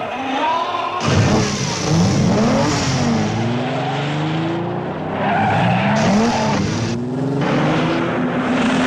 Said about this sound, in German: Das Ganze begann auch mit einem Intro-Intro, nämlich dem Anlassen des Ferrari-Motors. Ja, sehr charakteristisch.